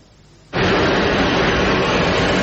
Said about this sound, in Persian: چرخ هواپیما از زمین کنده می شود، دل آنها از وطن.